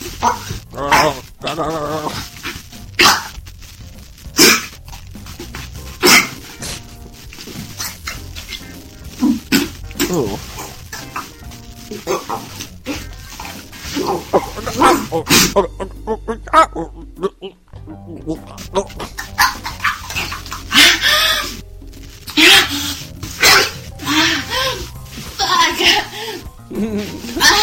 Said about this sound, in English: It's apparently some gag video. And it's 5 minutes long. It's ridiculous. So I'm just going to play a little bit here. And you know, I love the female gag videos because they always sound like turkeys.